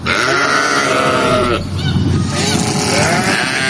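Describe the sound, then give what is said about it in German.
Shepherd Thomas Gackstatter's flock of sheep bleating all at once while being driven from summer pastures in eastern and southern Nuremberg to winter pastures west of Nuremberg, many overlapping wavering calls forming a loud, continuous chorus with a brief dip midway before the bleats swell again. “Wie jedes Jahr treibt der Schäfer Thomas Gackstatter seine Schafsherde von den Sommerweiden im Nürnberger Osten und Süden zu den Winterweiden westlich von Nürnberg.”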